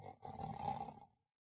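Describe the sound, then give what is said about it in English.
A single loud, rasping snore, rough and throaty, lasting about a second before trailing off into silence. It stands alone, with no talking around it. “never mind snoring.”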